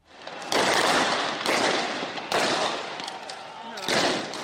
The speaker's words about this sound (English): This is not a war zone. It's Kenyan police doing crowd control. Some of the sounds of explosions are from tear gas canisters. But they've also used rubber bullets and live ammunition to quell protests.